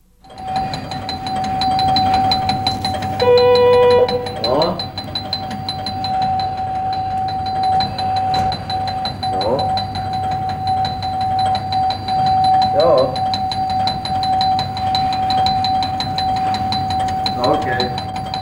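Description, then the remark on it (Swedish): Alarm signals in the control room of the Korstaverket plant outside Sundsvall, among blinking lamps and TV screens: a steady, piercing electronic tone drones throughout, a brief chime sounds early, and short warbling beeps recur every few seconds over a low machinery hum. “Och här bland blinkande lampor, tv-skärmar och larmanordningar som vi nyss hörde, där arbetar”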